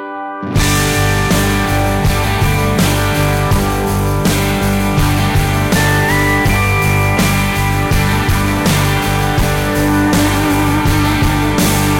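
A country pop song plays loudly and steadily after a brief silent start, with a full band and a regular beat. No voices can be heard.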